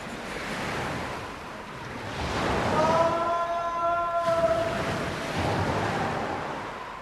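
Heavy, stormy sea waves surge and crash in a continuous roar below the cliffs of the Château d'If, building louder midway, with a brief eerie howling tone like gusting wind rising over the surf before fading.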